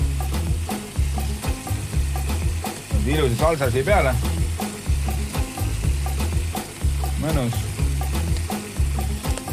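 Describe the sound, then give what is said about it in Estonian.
Scallops fry in a hot pan with a frying time of 3-4 minutes, sizzling and crackling steadily in a continuous bright hiss with occasional pops and some stirring, while a man speaks briefly over the cooking. “Selles suhtes kiloind on küll kallis, aga voolu läheb teile vähe, sest et praadimisaeg on 3-4 minutit.”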